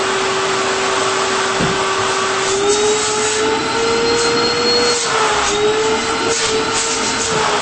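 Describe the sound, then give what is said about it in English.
A vacuum cleaner runs steadily, a loud continuous motor whine with a broad airy roar, its pitch wavering slightly as it works, with no talking over it. “So anytime you have a vacuum and it comes with a paper bag, try to get a cloth one if you can.”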